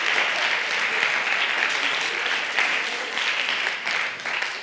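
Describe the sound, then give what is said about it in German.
An audience in a university lecture hall claps steadily for several seconds, a dense wash of many hands at fairly even loudness, with no one speaking over it. “Einmal klatschen, bitte.”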